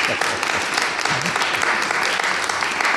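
A crowd applauds steadily for the full stretch, a dense, even wash of many hands clapping at once with no pauses, while faint voices murmur underneath.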